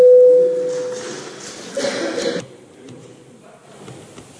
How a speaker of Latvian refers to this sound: Lūdzu zvanu.